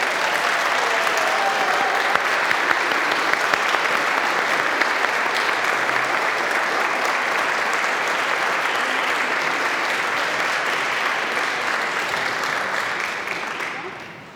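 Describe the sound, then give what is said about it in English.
An audience at a Catholic baptism breaks into sustained, steady applause to signal its affirmation, a dense wash of clapping hands that holds evenly for about thirteen seconds before tapering off at the end. “Will you please signal your affirmation with applause?”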